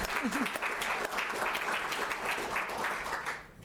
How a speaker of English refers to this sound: Our best years are yet to come. Last year, thank you. I'll clap to that, yes.